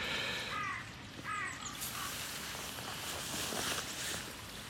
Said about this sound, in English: Raven's calling. Different ends of the valley.